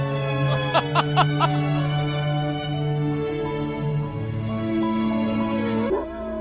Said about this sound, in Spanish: Se trata de Popeye, el perro que canta